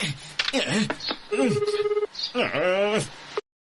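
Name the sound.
telephone ringing unanswered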